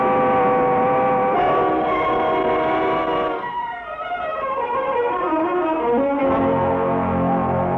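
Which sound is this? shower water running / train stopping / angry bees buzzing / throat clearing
train stopping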